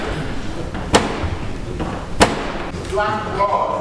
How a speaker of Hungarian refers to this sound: a Black Rod, azaz a fekete pálca kopogott be a parlament ajtaján, miután szokásos módon becsapták előtte az ajtót.